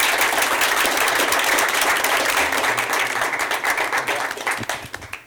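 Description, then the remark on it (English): A crowd at a candidate forum with the League of Women Voters applauds loudly and steadily to welcome two candidates, a dense wash of many hands clapping that holds for several seconds before thinning into scattered individual claps at the end. “So, please turn off your phones if you have them on already, and refrain from applause, and please welcome our two candidates.”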